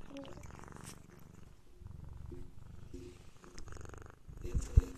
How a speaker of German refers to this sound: Oh, Entschuldigung. Ich hör's. Ich war erst so, ist es wieder ein Flugzeug im Hintergrund? No. Nein, es ist eine Katze, die ins Mikro schnarrt.